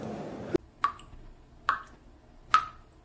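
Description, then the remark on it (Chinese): Three clear water drips plink one after another at a slow, steady pace, each a bright, ringing drop falling from a faucet not turned off tightly, in an otherwise quiet space. “你的水龙头没关紧，我听到她在哭，滴答滴答，那都是我的血呀。”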